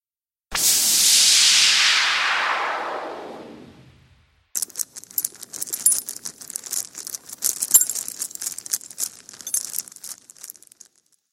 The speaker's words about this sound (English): Suddenly, there was a flash of lightning, and the sound of metal chains filled the room.